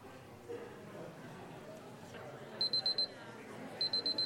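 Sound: timer alarm ringing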